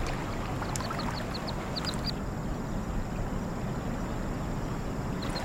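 A quick run of about eight short, high-pitched calls from mandarin ducks in a park in Beijing, China, sounds early on, then fades, over a steady wash of water and outdoor noise. Nobody speaks.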